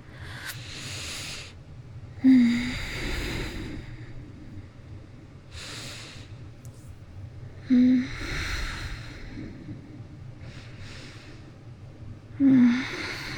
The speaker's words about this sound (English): And I'm asleep. You stay very quiet. You can hear me just breathing in the dark.